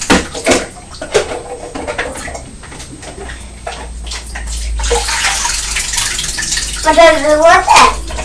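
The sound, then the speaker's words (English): Water pours and splashes steadily from a bucket through a toy water wheel, a rushing stream that builds midway and continues to the end, with bits of talk before it and a high voice near the end. “I think in a moment it's time to move the water wheel back into the white bowl.”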